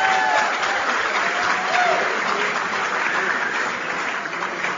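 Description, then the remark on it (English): Steady, dense applause from a large audience at the Stevie Awards show, a continuous wash of many hands clapping at an even loudness for the whole few seconds, with a faint murmur of voices underneath. “Now, you know, the first rule to a good award show is for the audience to applaud for everything.”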